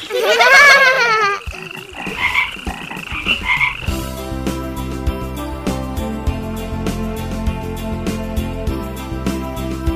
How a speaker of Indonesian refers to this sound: Sobat pintar, katak disebut binatang amfibi.